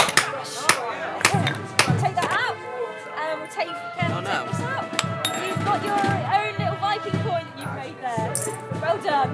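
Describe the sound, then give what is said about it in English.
A hammer strikes a small silver coin, made as a copy of authentic coins that would have been in the area, with sharp, ringing metallic taps at an uneven pace, while people keep talking underneath. “Made a little silver coin. Authentic coins that would have been in the area.”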